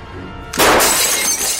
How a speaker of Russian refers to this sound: Внезапно раздался грохот. В комнату брызнули тысячи осколков стекла.